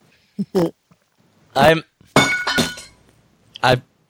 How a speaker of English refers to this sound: I dropped my water bottle.